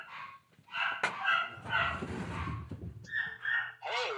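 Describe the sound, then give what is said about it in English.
Dogs bark and yip excitedly in a quick series of high, overlapping bursts, with some rustling and shuffling noise underneath as someone tries to turn on a fan. “The dogs are excited about it.”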